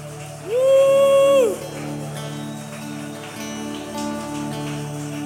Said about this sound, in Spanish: Recibe este aplauso, Jesús.